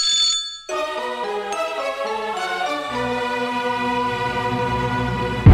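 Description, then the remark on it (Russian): A phone rings with a steady electronic ringtone as a call is placed directly to someone's home, bright sustained tones that shift pitch a few times and continue without a break. No one speaks. “берет трубку, набирает номер … и звонит прямо ему домой”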